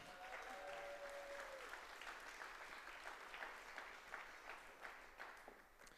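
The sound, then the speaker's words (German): Steady applause from a crowd, dense clapping that stays loud throughout before thinning slightly at the end, with a brief whistle-like tone early on. “Applaus. Applaus.”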